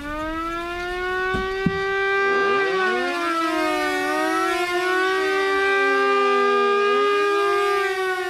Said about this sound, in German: Das Geräusch, wenn die Sirenen gingen, das war ja dann immer am Anfang Vorwarnung, Nachwarnung und auf, ab und so. Und da waren ja alle Kilometer irgendwo auf dem Dach waren Sirene und die heulten dann alle.